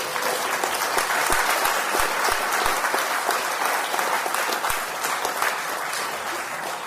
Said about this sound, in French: Elle déteste qu'on l'applaudisse, mais tant pis pour elle, tous les ans, elle y a droit. Hein, et donc, elle le mérite bien.